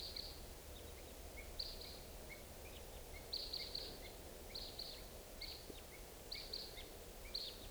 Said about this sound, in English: It's 6:55, and I hear crossbills, type 2s coming around. Two birds.